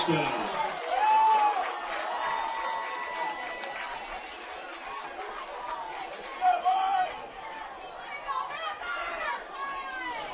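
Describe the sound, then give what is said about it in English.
A lively, enthusiastic Panther home crowd supporting their team at a high school football game, a dense wash of overlapping voices chattering and calling out, steady throughout with a few louder shouts rising above the din. “Very enthusiastic Panther crowd, still supporting their kids, which is always good to see and hear.”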